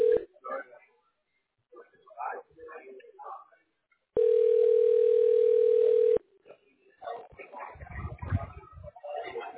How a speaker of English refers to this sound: Still ringing.